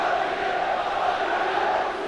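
Away Juventus football fans cheer and chant in a stadium in Genoa, Italy, a dense, steady roar of many voices that holds at a constant loud level throughout, with no one speaking over it.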